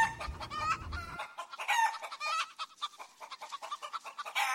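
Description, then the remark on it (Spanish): Hens cluck busily in the patio of a house, a steady stream of overlapping chatter from several birds, with a low rumble underneath during the first second. “Esa está por allá, por el patio, echándole mayo a las gallinas.”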